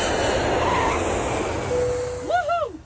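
A steady, broad roar of an airplane in flight fills the whole stretch, with a faint sustained tone and a quick two-note electronic chime rising near the end.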